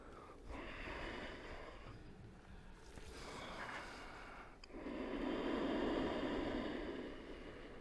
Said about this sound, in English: So you want a resonance right from the throat. Not sniffing the air. The sound's not coming from the nose. It's coming from the space of the throat at the level of the glottis.